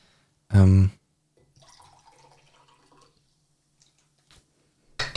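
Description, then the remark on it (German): Water trickles softly into a glass for about a second and a half, a faint, quiet fill sound, preceded by a short loud vocal burst and followed by a couple of small clicks. “So, hat man es gehört, wie ich Wasser eingeschenkt habe?”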